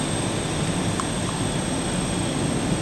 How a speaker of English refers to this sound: 195 miles per hour. Rotate. Holy mackerel, we've taken off.